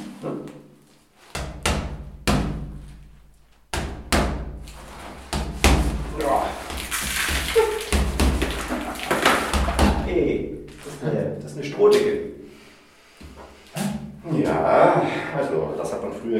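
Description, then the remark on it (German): A series of dull, heavy knocks and thuds of a hammer against a plastered straw-mat ceiling, irregularly spaced, with some crackling debris and voices talking in between. “Jetzt gib mir mal einen Hammer. Klopf mal ein bisschen.”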